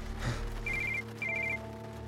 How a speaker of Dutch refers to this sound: Nou ja, goed, toen bleef zijn telefoon maar afgaan, dat hoorde hun ook, dat was ik.